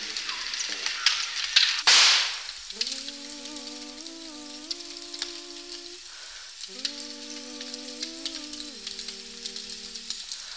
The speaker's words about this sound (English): Sometimes, you know, it's an evening like this, and you're surrounded by the flames. Pretty much all you can see.